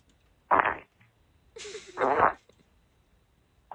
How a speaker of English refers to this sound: Jeez. Stop sending farts on the boner line.